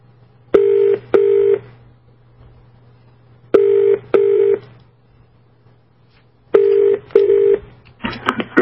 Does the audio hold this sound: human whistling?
no